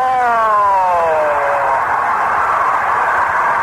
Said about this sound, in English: I know it happened, but I can hear that scoreboard going off.